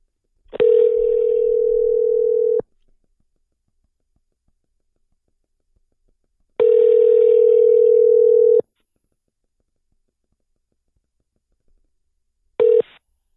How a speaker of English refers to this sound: So let me call him up. Hopefully he fucking answers the phone,